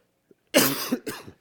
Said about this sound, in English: I know coughing isn't good in a mic. I apologize.